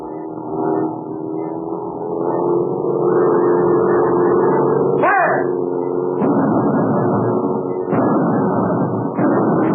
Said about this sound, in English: The plane is swinging in a circle. It's banking. Getting ready to dive.